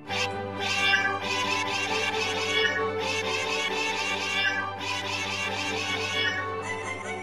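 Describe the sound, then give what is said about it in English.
A crowd of cats meowing over one another, several overlapping yowls rising and falling continuously, loud, with a steady low hum beneath and no talking. “Anybody can have a cat. And pretty soon, everybody does. Like, cats everywhere.”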